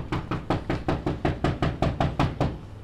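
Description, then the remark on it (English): Steady knocking on a front door, about a dozen firm raps in quick, even succession, with no voices. This is a community prosecution unit's knock-and-talk visit at a Milwaukee property, investigating neighborhood complaints. “calls this type of visit a knock and talk, and she doesn't travel alone.”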